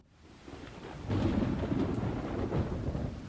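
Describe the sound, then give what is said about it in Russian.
A heavy thunderclap rumbles in and swells to a loud, sustained roll, with steady rain hissing underneath throughout. No voices are present. “Гроза была страшной, а я бежал и бежал к знакомому переулку, громко шлепая по хлопающим, бурлящим лужам, стараясь заглушить удары собственного сердца.”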